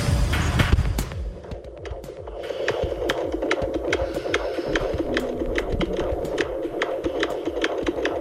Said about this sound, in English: Do you know what that is? Sounds like a heartbeat. It is. It's my baby's heartbeat.